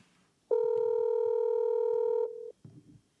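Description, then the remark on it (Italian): A steady electronic ringback tone of an outgoing Telegram call sounds for about two seconds, a bright sustained beep with stacked harmonics, then a short lower blip and a brief muffled rustle. “C'è uno squillo diverso perché siamo su Telegram.”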